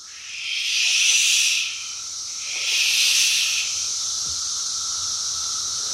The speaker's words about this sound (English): The one you just played is called Magicicada cassini, and this makes an individual cicada goes. But then when you have millions of them, they actually synchronize into these waves of noise.